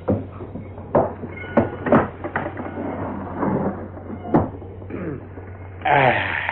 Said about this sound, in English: Oh, well, I better get this door shut, I guess.